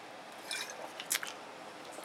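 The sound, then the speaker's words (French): Quiet wet mouth sounds of someone sipping cold water, with a few soft slurps and gulps spaced over two seconds and no talking. “Attendez, je vais prendre une petite gorgée d'eau, si ça ne vous dérange pas, parce que j'ai la petite gorge gâton, ouais.”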